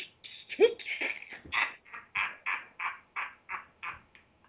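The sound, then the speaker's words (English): A person imitates a clock ticking with a steady run of about a dozen crisp mouth clicks, evenly spaced and fairly loud, after a brief squawky vocal sound at the start. “When the clock goes”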